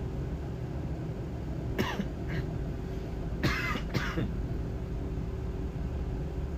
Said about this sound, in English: Excuse me again. He said, what? I said, I thought I just coughed and said, excuse me, automatically again. No, sir, he said. You coughed just then, but you didn't before.